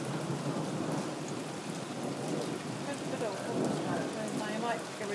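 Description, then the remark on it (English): Heavy rain pours down in a dense, unbroken hiss that swells slightly louder toward the end, with faint murmuring voices buried underneath. “It's getting heavier again.”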